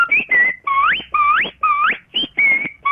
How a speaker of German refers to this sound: aus Grüningen hat uns vorher so pfiffen, wie sie auch bei ihrem Mann pfeift, wenn es zu Mittag gibt. Und das tönt so.